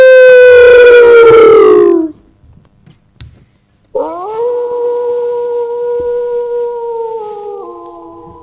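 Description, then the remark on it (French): Two loud wolf howls: the first slides downward and fades after about two seconds; after a short quiet gap, a second howl holds a long, steady pitch before dropping slightly near the end. “Écoutez bien la vie du loup. Ah ouh!”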